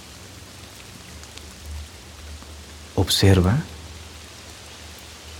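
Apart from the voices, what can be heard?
rain falling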